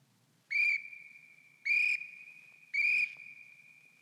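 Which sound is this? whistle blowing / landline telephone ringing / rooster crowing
whistle blowing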